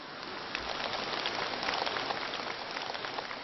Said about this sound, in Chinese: 鼓掌鼓得很热烈，好像你们都很开悟一样。